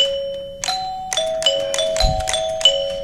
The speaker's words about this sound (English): Nothing but a chime box. Right? Chime box and a motor. It's on an old hunk of 2x6 that I had laying around. Painted pretty colors, pretty lights on it. It's a display.